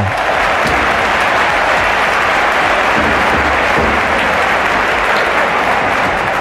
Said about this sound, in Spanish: pero bueno, no sé, aplauso.